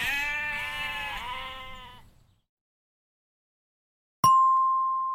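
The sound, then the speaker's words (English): A sheep gives one long, wavering bleat lasting about two seconds. After a short silence, a bright bell-like ding rings out and slowly fades. “They're sheep”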